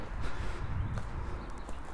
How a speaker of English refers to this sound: Hooves of horses.